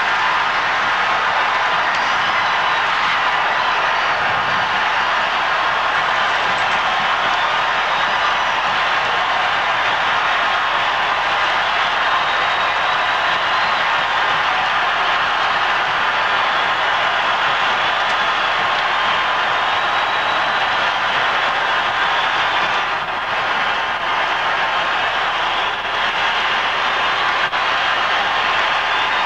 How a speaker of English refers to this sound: The crowd just keeps going on, by the way. It was pandemonium.